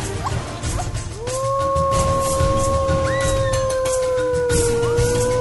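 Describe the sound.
A man imitates a wolf to teach wolves their language, letting out a long howl that swoops up and then holds a steady, mournful pitch for several seconds, while higher howls join in partway through over a low rumbling background.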